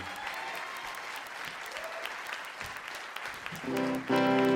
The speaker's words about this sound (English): Welcome to the stage. How about a round of applause for these guys?